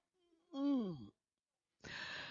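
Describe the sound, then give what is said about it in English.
A man imitates Jesus getting up and yawning: a drawn-out, voiced sound sliding downward in pitch, then a pause and a breathy exhale. Moderately loud, with no speech. “And Jesus just gets up and yawns.”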